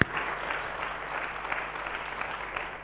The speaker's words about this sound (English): That is the sovereign God we serve. Let's give him another applause.